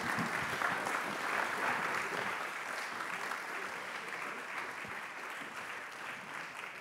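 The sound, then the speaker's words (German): Sustained audience applause, a dense crackle of many hands clapping at steady volume that tapers slightly toward the end, with no one speaking over it. “Vielen Applaus.”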